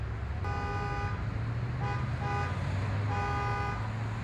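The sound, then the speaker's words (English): Car horns honk repeatedly in several long and short blasts over a steady rumble of road traffic in Edinburgh, with engines droning underneath throughout. “Constant traffic build-up in Edinburgh can prove to be an annoyance when trying to get from A to Z”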